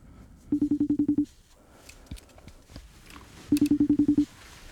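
Two quick bursts of touch-tone beeps as a phone number is dialed, each run of about eight short, evenly spaced tones, separated by a pause with faint clicks and rustling.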